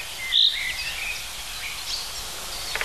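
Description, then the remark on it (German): A high, thin bird song with a buzzy, cricket-like trill, heard in Brandenburg/Berlin over faint outdoor ambience, with a brief sharper note near the start and a few ticks at the end. “Bisschen wie eine Grille, sagen viele.”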